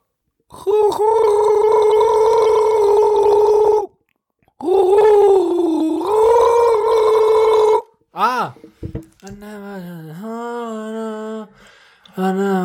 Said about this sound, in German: Es gurgelt sich auch sehr gut. Oh, ich will noch was gurgeln. Kleiner Bonusgurgler. Bonusgurgler. Der Donnergurgler.